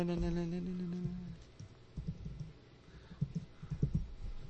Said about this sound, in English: I can hear Dan pounding on the keyboard.